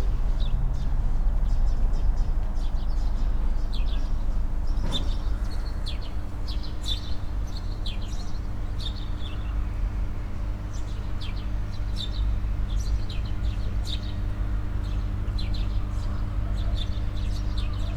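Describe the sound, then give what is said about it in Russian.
Two birds chirp back and forth in quick, repeated bursts of short high calls, each with a different voice, over a constant low electrical hum from a substation that fills the background. “Другой голос. Они по-разному чирикают, правда ведь? Хотя их там двое.”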